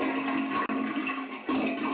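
toilet flushing

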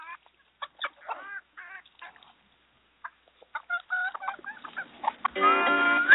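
chickens clucking

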